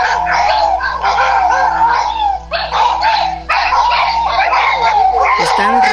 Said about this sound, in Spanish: he escuchado que los perros ladran de una manera tenebrosa a un árbol de pirul, y hace ratito lo volvieron a hacer. De lo feo que se escuchaba, yo hasta creí que era la televisión, pero alcancé a grabar un poquito.